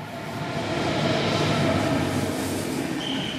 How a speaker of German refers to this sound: Kurz vor 10 ist es inzwischen. Der Intercity nach Amsterdam fährt auf Gleis 12 ein.